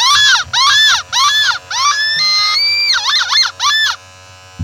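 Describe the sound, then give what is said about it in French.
A loud cacophony of a seagull screaming and a passing duck quacking by the sea: six rapid shrieking calls, a long sustained wail, then quick wavering squawks, with no talking. “La mouette, elle s'entend plus crier, donc elle se met à hurler.”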